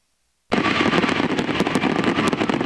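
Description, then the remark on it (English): After a brief silence, a dense, loud barrage of fireworks erupts over the national stadium in Paris at the 2024 Olympics closing ceremony, with rapid overlapping crackles and bangs over a constant roar. “The Paris Olympics went out with a bang as fireworks engulfed Paris's national stadium.”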